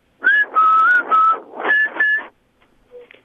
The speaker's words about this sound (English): It's a very interesting whistle.